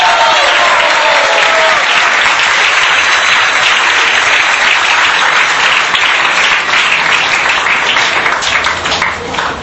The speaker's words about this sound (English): so if you could please just give him one more round of applause.